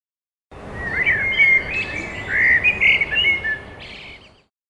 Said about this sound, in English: Bird.